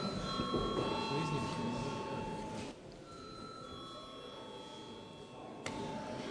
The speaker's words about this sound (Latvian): Paldies, lūdzu zvanu.